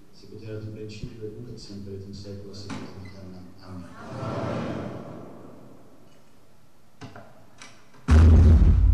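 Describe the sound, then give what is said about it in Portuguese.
A church door bangs with a sudden, loud, heavy crash near the end, after a stretch of quieter voices and faint murmur echoing in the church. “Tivemos um primeiro tremor. Eu acho que foi só a porta que partiu.”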